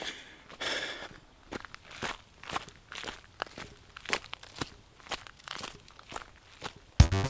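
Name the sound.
footsteps walking outdoors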